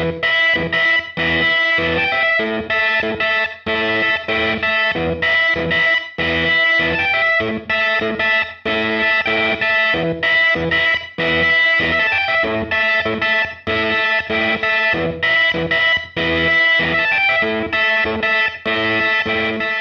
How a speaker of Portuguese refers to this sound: Utilizava um órgão com distorção, um Hammond B3 com uma distorção de marcha. Vamos ouvir o resultado?